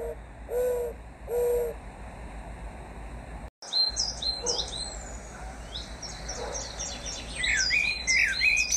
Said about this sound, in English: The doves never stopped cooing.